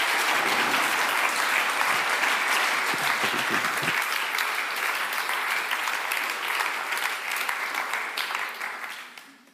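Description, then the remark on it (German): An audience claps loudly and steadily, giving God a big round of applause, in a dense, sustained burst that holds for several seconds before fading out at the end. “Können wir dem Gott einmal einen richtig grossen Applaus geben?”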